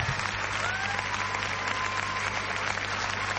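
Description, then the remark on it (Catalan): A crowd applauds steadily to welcome Antaviana, a sardana dance group from Tordera. It is a dense, even wash of clapping hands that holds at a constant level throughout, with no voices standing out. “Rebem-los amb un fort escalf, un bon aplaudiment.”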